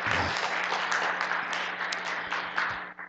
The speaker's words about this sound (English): You can do that. Yeah, you can go. You can do it more than once. I know you're wanting to applaud.